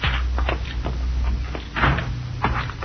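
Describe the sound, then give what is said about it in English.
A back door being opened and shut, with a few solid wooden clunks and rattles spread over a couple of seconds, over a steady low rumble and no talking. “Let's use the back door, Cisco.”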